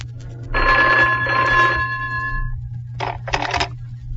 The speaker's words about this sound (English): On the way back to the apartment, Ed had to call into his office. Just as we got in the door, the phone rang.